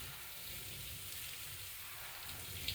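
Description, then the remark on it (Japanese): A steady, even hiss of water spraying from a shower, rinsing body soap off a person's skin, continuous and fairly soft throughout, with a faint patter and no voices. “そう、このボディーソープ、シャワーで流してもしっとり感が肌に残る感じあるでしょ？”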